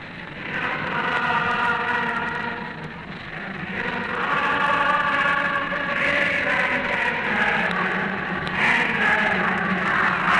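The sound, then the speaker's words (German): A large crowd on the Wilhelmplatz in the Reich capital cheers the Führer's return from the western combat area, heard in a radio broadcast, a dense, steady roar of many voices that swells slightly and never pauses, with massed tones blending through the noise for the whole stretch. “Wir beenden die Übertragung unter dem nicht enden wollenden Jubel auf dem Wilhelmplatz und halten in das Funkhaus zurück.”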